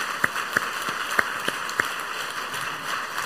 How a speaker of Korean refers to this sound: 우리 크게 한번 박수하겠습니다. 예, 고맙습니다.